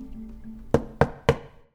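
knock on a door

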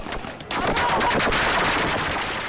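barrage of gunfire

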